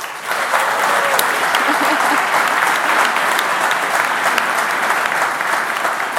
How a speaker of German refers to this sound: Und wenn Mitgliederinnen und Mitglieder vom Swiss Venture Club schon jetzt so laut applaudieren, dann steigt bei uns natürlich der Druck, die Erwartungen zu erfüllen.